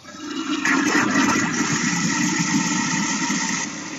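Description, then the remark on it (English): A toilet flushes with a 9-volt battery dropped into it, a loud, steady rush and swirl of water that starts abruptly and roars for several seconds before easing slightly at the end. No one speaks. “Will it flush? 3, 2, 1. 9-volt battery.”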